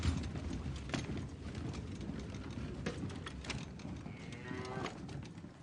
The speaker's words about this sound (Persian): چیزی نیست، فقط صدای گاو